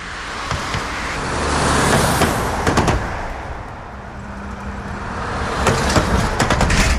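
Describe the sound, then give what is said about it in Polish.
Steady road traffic with cars passing, punctuated by sharp metallic clunks and knocks as wheels roll over a loose manhole cover in the street near Wyszyńskiego 38, between Wielkopolska and Kamienna, some in quick double bursts. “I tak bez przerwy puk, puk, puk, puk.”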